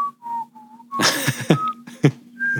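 Someone whistles a few short, casual tones, with brief rustling or breathy noise breaking in between the whistled notes.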